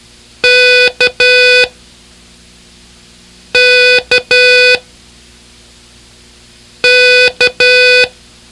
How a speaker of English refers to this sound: As you trace or write letters while copying Morse code